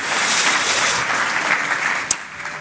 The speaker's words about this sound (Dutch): Nou, ik vind dat een applaus waard, of niet? Halleluja!